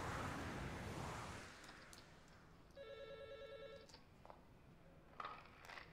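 telephone ringing

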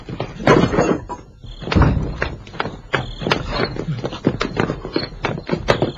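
door being broken down

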